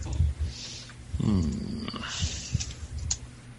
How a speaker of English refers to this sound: This is an incredible amount of noise coming from, it sounds like cows are trying to bust out of their pens, and you hear the dogs.